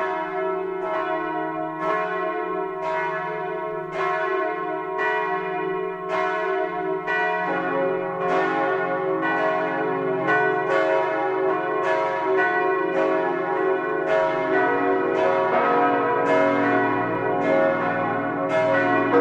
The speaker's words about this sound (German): Es ist 12 Uhr. Das Mittagsläuten kommt heute aus Füssen in Schwaben.